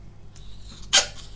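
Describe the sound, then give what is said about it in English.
A single short, sharp dog sneeze bursts out, a brief breathy snort standing alone over a quiet background. “that was Andre sneezing”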